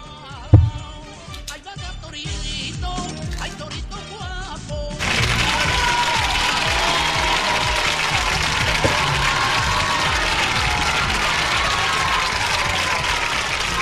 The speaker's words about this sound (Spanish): Los aplausos, empiezan con aplausos porque el artista lo merece, ¿eh? Es una de las más aplaudidas.